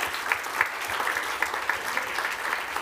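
Steady applause from an audience in the room at the FirstUp Attune London event, clapping for all who participated. Many hands clap together in a dense, continuous patter at moderate volume throughout, with no voices standing out.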